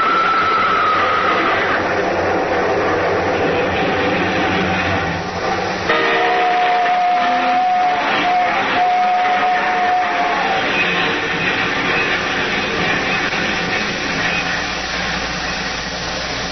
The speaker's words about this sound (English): Nobody's going to hear anything except this train. Yeah, there's the big baby now. A nice long train. Long and loud.